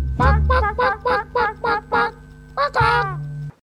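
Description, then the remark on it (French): A chicken clucks in a quick, evenly spaced run of about seven sharp notes, then lets out two longer, drawn-out squawks, loud over a faint low hum. “Un petit poulet ?”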